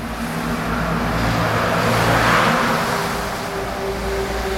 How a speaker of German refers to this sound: Die Nordstraße in Bremen ist eine vielbefahrene Straße. Unzählige Laster steuern den nahegelegenen Hafen an.